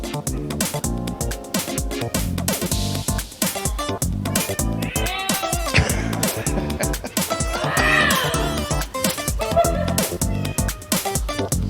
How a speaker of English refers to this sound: That is a big meow.